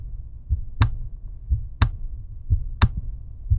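A steady, healthy resting heartbeat of an adult, 60 beats per minute, each beat a soft low thump followed by a sharper, louder knock. Three clear beats sound alone, with no voices.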